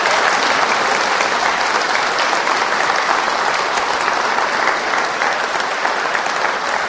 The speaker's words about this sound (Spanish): Bueno. Ese es el aplauso que se le da al papá de la tierra. Yo dije el papá del cielo, del cielo. Dele el aplauso al papá del cielo.